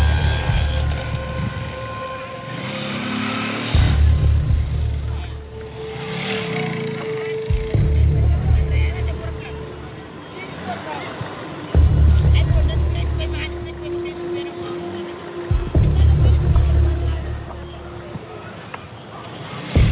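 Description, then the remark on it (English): Motorbike engines rev loudly as traffickers ride after children and surround them, surging in four or five heavy bursts that rise and fall over a rumbling, muffled background. “The traffickers chase after them and surround them on their motorbikes.”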